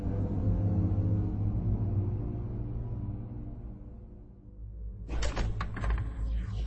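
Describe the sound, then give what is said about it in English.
A low, fading rumble gives way to a burst of metallic clicks and rattles as an apartment door is locked, with no voices present. “It's finally started, Leia announced bleakly as she locked the apartment door behind her and sank down onto the couch next to Han.”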